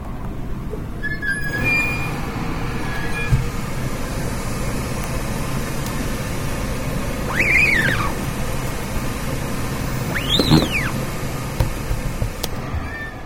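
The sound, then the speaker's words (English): A screen printing press runs with a steady whirring hum while a squeegee drags, pressing down on the silkscreen. Two high, arching squeaky creaks of the old press mechanism rise and fall a few seconds apart. “See if you can identify the sounds of the squeegee pressing down on the silkscreen, the vacuum turning itself off when the press is opened, and the creak of the old press mechanism.”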